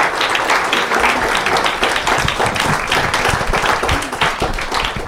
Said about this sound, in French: Oui, vous pouvez applaudir, bien sûr, voilà, droit, bien sûr. Voilà.